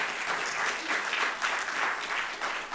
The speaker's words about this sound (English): We have the Coastal Pregnancy Center. And so y'all give them a round of applause for being here as well.